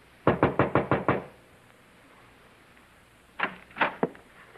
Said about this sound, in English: so I knocked at the door.